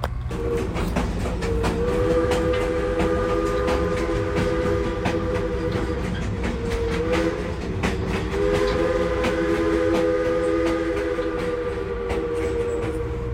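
A 1920 Baldwin 0-6-0 steam locomotive, nearly 100 years old, runs at the Hocking Valley Scenic Railroad with a steady, loud rumble and rhythmic clanking, while sustained, multi-toned whistle notes sound almost throughout. No one speaks.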